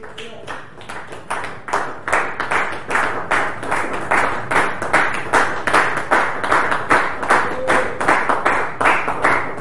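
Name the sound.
audience clapping hands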